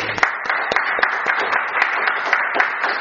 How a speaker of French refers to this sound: Amen. Gloire à Dieu. On applaudit le Seigneur.